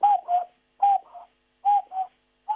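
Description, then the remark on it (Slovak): A cuckoo call imitated by blowing into cupped hands: three clear two-note hoots, the second lower, repeated at an even pace, with a fourth beginning as it ends. No one speaks. “Takže lúčime sa aj pozdravom kukučky a verím, že ju ľudia budú aj naživo počuť v prírode.”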